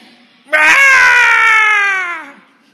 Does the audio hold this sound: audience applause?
no